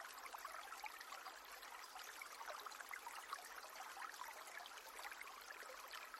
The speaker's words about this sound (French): L'eau coule sur les pierres, formant ici et là de petites cascades blanches qui emportent les feuilles et les branchages sur leur chemin.